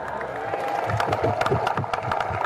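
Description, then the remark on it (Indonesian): A large crowd of Indonesian TNI soldiers bursts into scattered applause and cheering at President Jokowi's announcement of higher allowances, claps crackling unevenly over a steady roar of voices, loud and continuous throughout. “Jangan tepuk tangan dulu.”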